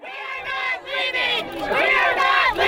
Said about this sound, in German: September 2016 auf einer Baustelle in den weiten Ebenen von North Dakota. Tausende Menschen protestieren gegen die Ölpipeline Dakota Access. Die aufgebrachte Menge besteht damals vor allem aus indigenen Einwohnern der Region